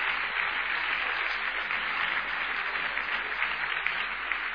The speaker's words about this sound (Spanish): Si ese es el aplauso para el Señor, hágalo bien fuerte.